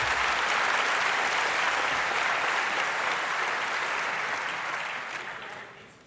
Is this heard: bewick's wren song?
no